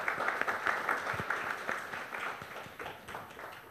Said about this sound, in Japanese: 拍手お願いします。